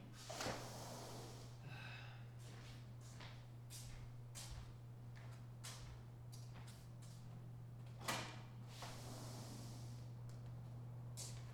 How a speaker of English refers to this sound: In fact, let me fucking open the door, let some of this heat out.